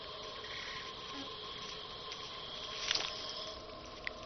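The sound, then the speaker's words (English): A male bee buzzes in a steady, droning hum at a bucket orchid, delivering pollen, with a brief louder flurry of wingbeats near the end and a soft tick just after. No one speaks. “But perhaps male bees have short memories, because here he is falling for the same ploy all over again.”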